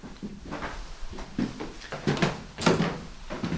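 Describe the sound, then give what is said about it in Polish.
Creaking wooden stairs under slow footsteps as someone climbs to the first floor, a series of irregular groans and knocks, moderately loud, with no talking. “Wychodzimy dalej skrzypiącymi drewnianymi schodami na pierwsze piętro.”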